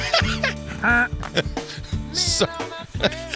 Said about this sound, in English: I actually grabbed a goose.